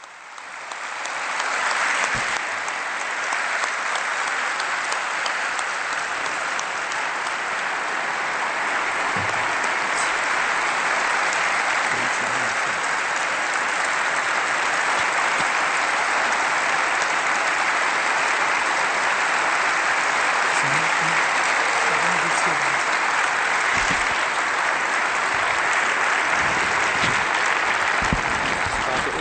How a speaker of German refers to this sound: Anhaltender Applaus.